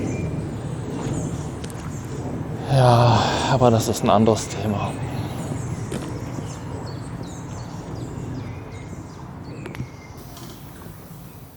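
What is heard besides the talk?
birds chirping outdoors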